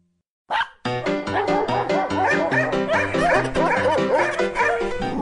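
Dogs bark and yip in a rapid, unbroken volley that keeps going for several seconds, loud, with no one talking over it.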